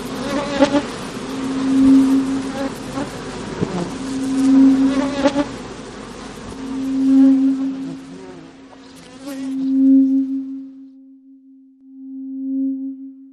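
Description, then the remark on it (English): Bees buzz loudly, a droning buzz that swells and fades in repeated waves, a steady low hum with a reverberant, room-filling quality and no voices, thinning out to a lone tone near the end. “The buzzing grew louder, filling the room with a reverberating hum.”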